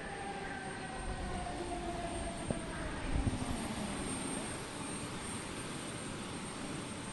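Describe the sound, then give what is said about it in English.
A passenger jet landing in humid Queensland, heard as a steady, loud engine and wind roar with faint whining tones, broken by a couple of brief thuds partway through, with no voices. “After the plane pulls into the terminal, we wait for everyone else to get off before we gather our things and step out into the humid Queensland air.”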